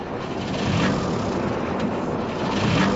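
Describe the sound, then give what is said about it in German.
A boat engine with its spark plug removed cranks repeatedly without catching, a steady mechanical whirring and grinding with faint surges about once a second, with no voices heard. “Der Motor startet nicht.”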